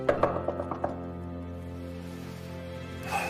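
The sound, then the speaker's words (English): A quick series of about six sharp knocks on a door, evenly spaced and fairly loud, then stillness with a steady low hum lingering underneath. “What the hell is that? I'll get it. Don't go. Oh, maybe I'll just keep knocking.”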